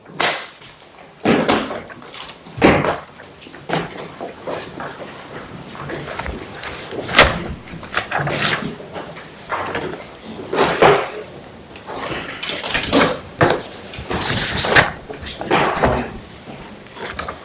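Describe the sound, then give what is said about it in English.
Chairs knock and bump repeatedly as they are shuffled around at the well of a courtroom, a steady run of irregular wooden thuds and scrapes, some louder than others, lasting throughout. “Traffic jam at the well of the court here. Maybe we have too many chairs here.”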